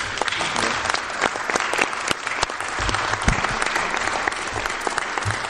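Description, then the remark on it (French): Steady applause from a crowd at a municipal meeting, thanking a departing staff member who is leaving for Metz Métropole: a dense patter of many hands clapping at an even level throughout, with no voices standing out. “Et donc je voudrais le remercier en votre nom à tous et on peut l'applaudir.”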